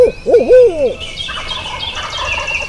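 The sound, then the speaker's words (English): A loud owl hoot imitated by a turkey hunter's voice at daybreak at a glade, wavering up and down for about a second, then turkey gobbling and birdsong carrying on in the background. “gives an owl hoot”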